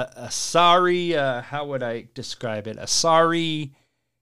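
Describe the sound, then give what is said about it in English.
A single voice lets out a loud, drawn-out, wavering boo in two swooping, anguished phrases, with breathy hisses before each, then falls silent. “a sorry, agonizing boo.”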